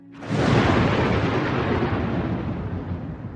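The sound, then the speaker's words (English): A sudden, loud crack of thunder from a lightning strike right next door bursts in and rolls on as a heavy, sustained rumble that slowly fades, with no voices present. “Before things can get heated, they are startled by a sudden crash of lightning.”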